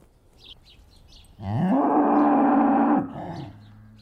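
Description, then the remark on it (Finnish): A single loud, drawn-out cow moo lasts over a second, while small birds chirp and twitter faintly in the background before and after, in a spring forest where three cows have come through an opened gate. “Kolme lehmää rynnistää ja loikkii ketterästi avatun portin takaa keväiseen metsään.”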